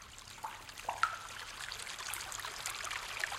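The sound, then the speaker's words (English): A small stream trickles and babbles steadily through a cave, with a few brighter drips and splashes of water from the cave roof near the start, echoing softly. No voices are heard. “And a stream trickling through the cave.”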